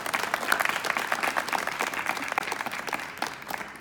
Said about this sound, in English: So let's give a round of applause to him as well.